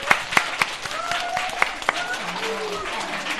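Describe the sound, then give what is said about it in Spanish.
A small audience applauds a participant's original verse with scattered, uneven claps that stand out sharply over a steady hum of voices talking and murmuring underneath. “Bueno, qué original, un aplauso.”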